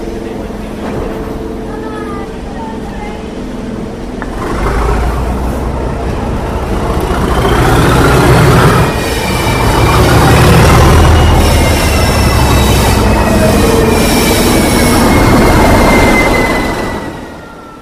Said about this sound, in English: What's happening is that a passenger train is being worked out of Bowness, top and tailed by two locomotives. Former London and North Eastern Railway class D49 Murrayshire is at the head of the train, with an English Electric Type 3